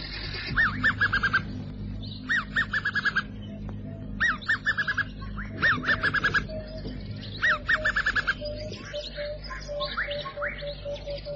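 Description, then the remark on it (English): A chanting goshawk, perched on a tree by a river at sunset, calls in repeated bursts of rapid, piping notes, each run a second or two long and separated by short pauses, over a steady low rumble. “The springboks drink at the water's edge, and on a nearby tree sits a chanting goshawk.”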